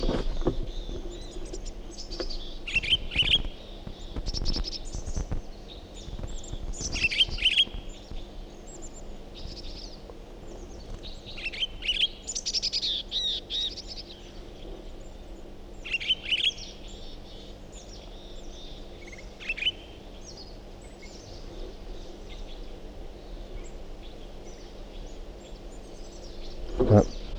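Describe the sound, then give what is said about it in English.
Recorded bird song of a different bird: bursts of high, bright chirps and twitters come in irregular flurries over a low, steady electrical hum, with no one talking. “Start recording the Pine Girl Speak again. Different bird.”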